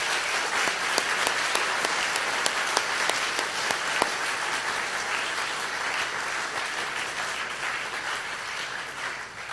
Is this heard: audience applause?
yes